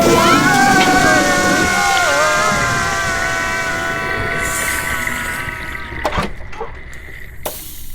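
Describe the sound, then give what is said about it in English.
A loud, rushing water flush pours and gurgles with a steady whooshing roar and a whistling tone, gradually draining away and ending in a few scattered drips and clunks. “But it's time for the quarterly meeting, so instead prepare to be flushed.”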